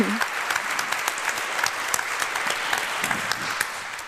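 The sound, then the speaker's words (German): Steady audience applause, a dense patter of many hands clapping at an even level throughout, with no voices standing out above it. “Vielen Dank, Applaus.”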